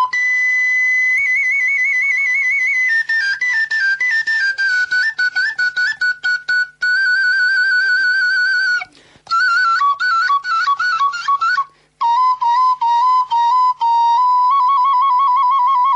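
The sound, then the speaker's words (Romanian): A small folk flute (fluieraș) plays a lively, ornamented melody, with trills and quick note changes, pausing briefly twice before resuming, with no voices. “Alt fluieraș.”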